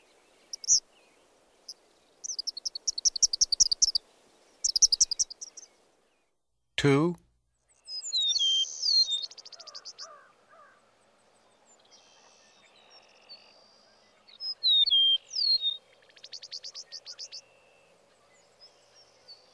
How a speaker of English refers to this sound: Old field and open fields also provide habitats for a variety of birds. Listen to the following seven species that are often found in fields.